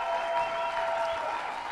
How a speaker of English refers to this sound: And I want you to stand to your feet and give your pastors the best round of applause to honor them.